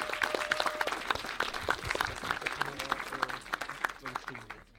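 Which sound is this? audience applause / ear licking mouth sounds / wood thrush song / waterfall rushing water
audience applause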